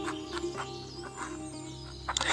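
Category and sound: bird, canary singing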